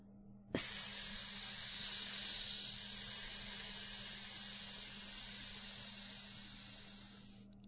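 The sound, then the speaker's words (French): A person vocalizes the letter S, linked with fire and the coccyx chakra, as a long, steady, high-pitched hiss imitating a machine's compressed-air brakes. It starts abruptly, holds loud and even for about seven seconds, then stops, with no talking. “à la voyelle S, qui est intimement liée avec le feu et qui correspond au chakra du coccyx et se vocalise en lui donnant une intonation spéciale, un sifflement aigu ressemblant au bruit que font les freins à air comprimé d'une machine, comme cela.”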